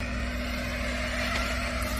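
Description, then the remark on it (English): An angry bush stone curlew in Australia growling at a man through the glass back door of his home: a steady, low, buzzing drone that holds unbroken for about two seconds, sounding almost mechanical, like a clothes dryer left on. “Apparently it's called a bush stone curlew.”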